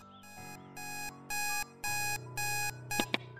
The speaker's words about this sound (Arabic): اليوم كان يوم 3 عادي لما صحيت على صوت المنبه الساعة 7 بالظبط.